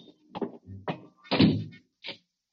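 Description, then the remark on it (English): A door is pushed shut and locked: a run of short wooden thunks and knocks, a heavier thud in the middle, then a final click of the latch, with no talking. “Lock the door after we go on.”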